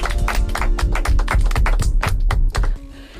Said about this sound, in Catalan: Correcte, molt bé. Fort aplaudiment.